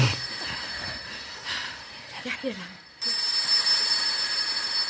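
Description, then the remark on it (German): An old rotary-dial telephone standing on a dresser beside a coat stand rings with a harsh, continuous metallic jangle. It is fairly loud throughout and gets abruptly brighter and louder about halfway in, with a brief murmur of voice beneath it. “Ein altes Telefon. Mit Wählscheibe, wie in unserer Zentrale.”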